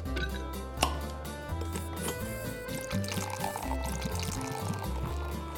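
Beer pours into a glass for several seconds, a steady gurgle and splash with a fizzy, bubbling edge, along with a sharp clink near the start.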